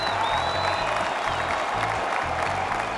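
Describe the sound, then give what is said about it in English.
A large crowd of prison inmates claps loudly and continuously to upbeat tunes at a live concert in a prison, with rhythmic low thuds of stomping feet pulsing underneath, no voices standing out. “The performance drifted between chart toppers, mournful ballads, and upbeat tunes that had the inmates clapping and stomping their feet.”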